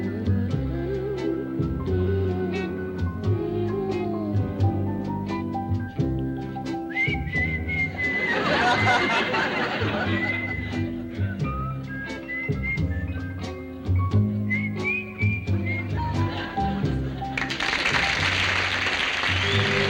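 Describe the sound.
Someone whistles a sweet, wavering melody over a steady band accompaniment, the tune rising and falling in clear sustained notes, with a burst of noisy hiss near the end.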